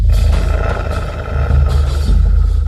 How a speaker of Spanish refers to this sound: Sin embargo, para su asombro, tras sus muros no encontraron ni un alma que les hiciera frente, solo un puñado de lobos que mostraba su furia a los invasores.